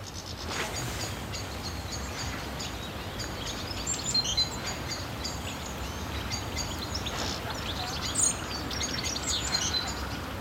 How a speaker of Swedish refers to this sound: Så det du hör kvittra här i bakgrunden, det var steglitz. Och sen den som höll på att locka, kick, kick, kick, det är ju kåtrasten.